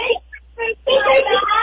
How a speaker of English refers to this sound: I hear some kids.